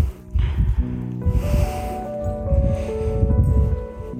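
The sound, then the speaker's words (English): Cows snort and huff in a series of low, breathy bursts, with some deeper rumbling tones in between, fairly loud and continuous over the few seconds, with no talking. “Ma! These cows.”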